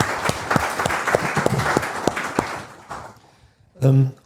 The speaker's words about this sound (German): Also vielleicht mal einen kleinen Applaus für die Kollegin, die es hier so gemacht hat.